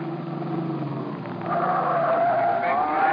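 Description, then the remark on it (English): The engine of Red's Erskine Coupe, used as a taxi, drones steadily, then revs louder about halfway through as the car speeds off toward Baltimore Street, with a rising, whining tire squeal. No one speaks. “We piled into a taxi in Red's Erskine Coupe and slammed out for Baltimore Street and Matty's loft.”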